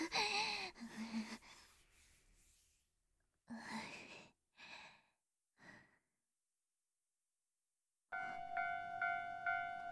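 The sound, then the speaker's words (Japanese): Soft breathy sighs and breaths give way to a sudden loud, steady tonal whine of a train arriving at a station, its squealing tones filling the last couple of seconds. “あ、電車来た。”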